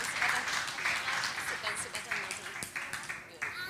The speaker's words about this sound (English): Give him a round of applause for being willing to try the food.